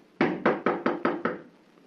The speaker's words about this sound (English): You going to knock?